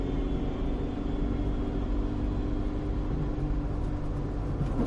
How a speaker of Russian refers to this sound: Торн выскочил на шоссе, ведущее в Лондон. Приближался рассвет. Туман начал рассеиваться. Машина Торна неслась по пустому шоссе, и мотор гудел от нарастающей скорости.